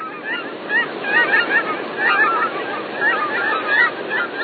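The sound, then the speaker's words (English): A dense chorus of honking geese calls continuously, many overlapping voices from a large migrating flock blending into a steady, restless clamor. “this is the sound made by a river of birds.”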